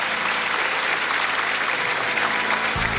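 A crowd claps for the speaker's friends steadily for the whole stretch, a dense, even wash of many hands at full volume with no pause and no voices rising above it.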